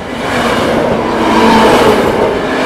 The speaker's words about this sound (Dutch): Ook deze trein geen last van de herfst nog, hè? Nee, deze wielen zijn nog prachtig rond. Dat valt me mee.